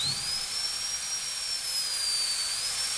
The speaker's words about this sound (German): Das fängt schon allein mit dem Geräusch des Bohrers an.